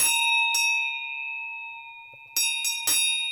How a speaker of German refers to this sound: Das ist eine Schelle. So klingen die Schellen. Daneben, also neben diesen robusten Glocken, die die Kühe auf den Almen tragen, gibt es auch die sogenannten Singeisen.